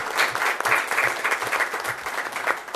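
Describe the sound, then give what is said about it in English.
An audience at a town meeting claps steadily to honor the town's electric utility crew, a dense patter of many hands at a fairly even loudness for a few seconds, with no voices rising above it. “Yes, let's give Tim and his crew a round of applause.”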